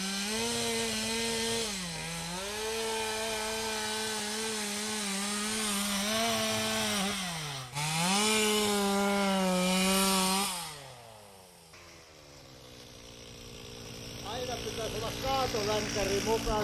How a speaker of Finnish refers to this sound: Otetaan vähän etäisyyttä, että ei ihan tule niin kovalla äänellä toi moottorisaha tähän mikrofoniin.